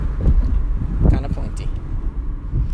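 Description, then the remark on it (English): Steady, loud low rumble of a moving car with its windows down, wind buffeting the microphone throughout, with a muffled voice faintly audible beneath the roar. “I don't know if you can hear me right now because my windows are down.”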